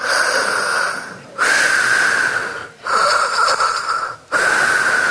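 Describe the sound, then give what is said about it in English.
Someone imitates heavy, rasping mechanical breathing like Darth Vader, loud wheezy inhales and exhales alternating in a slow steady rhythm, four long breaths with short pauses between them. “And not only that, but he's creeping me out with the way that he's breathing like Darth Vader.”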